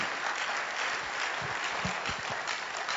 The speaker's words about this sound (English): The rest of you better clap because that, I just gave you the key to your life.